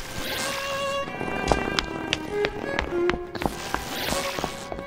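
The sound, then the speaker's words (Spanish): Quick, irregular footsteps of a person running out of a room to the bathroom hurry away, sharp at first, over a steady sustained musical tone with no voices. “Grete salió corriendo al baño en busca de alguna esencia para despertar a su madre.”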